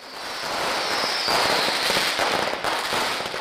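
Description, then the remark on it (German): Dense, continuous crackle of New Year's Eve firecrackers and fireworks going off all at once, a loud overlapping barrage of pops and bangs with a faint whistling streak above, no voices. “Allerdings ist die Lust am Silvesterfeuerwerk ungebrochen.”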